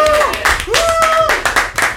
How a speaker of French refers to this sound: Hey, je veux entendre des applaudissements. Yeah.